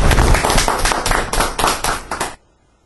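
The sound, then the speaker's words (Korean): A small group applauds steadily for about two seconds, a dense patter of handclaps that swells in waves and then stops abruptly, leaving near silence. “박수로.”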